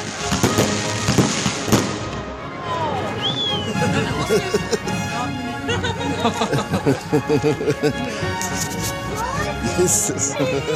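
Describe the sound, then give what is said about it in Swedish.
Fireworks explode in a dense, continuous barrage of loud booms and crackling bursts, with whistling rockets rising through the noise and faint crowd voices mixed underneath. “Man kanske kan tänka sig en mindre stad som firar nyåret och har ett fyrverkeri för medborgarna.”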